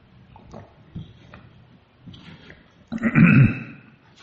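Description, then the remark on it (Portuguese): Someone takes a sip of water: a few soft, scattered clicks and handling noises, then one short, louder gulping swallow near the end. No one speaks. “Deixa eu tomar um gole d'água aqui.”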